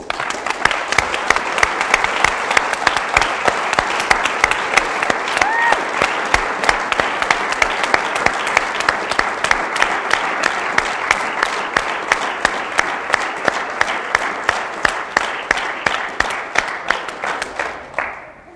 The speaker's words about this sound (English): All the guys making coffee and serving coffee and making sandwiches and making sound and what everybody did, read from up here, and I think we should applaud all these guys.